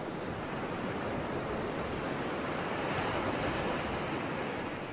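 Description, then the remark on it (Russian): A steady, continuous wash of ocean surf at night under bright stars, a broad hissing roar without distinct breaking crashes, holding an even level throughout with no voices. “Крупные яркие звезды склонились над океаном, отражаясь в воде.”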